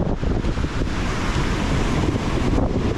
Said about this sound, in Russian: И волна невероятного цвета, вот когда, знаете, она к берегу подходит, так начинает уже переваливаться. Такая лазурная, невероятная.